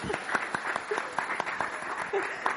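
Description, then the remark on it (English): An audience breaks into steady applause, many hands clapping in a dense, crisp patter that keeps up throughout at a moderate, even level. “Oh, let's clap!”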